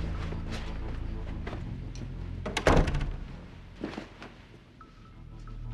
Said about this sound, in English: The woman who posed as Hodges' attorney knocks at Tony's motel room door. He lets her in.